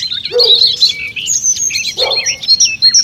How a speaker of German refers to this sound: Ihr hört jetzt Zingvögel, Kohlmeise, Gartengrasmücke und Rotkehlchen.